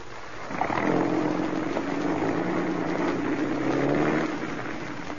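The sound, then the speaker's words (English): A car engine turns over and catches as a man starts the car, then runs with a steady, rumbling drone that swells slightly as he drives away before easing off near the end. No voices are heard. “He's getting into the car now. He's rolling.”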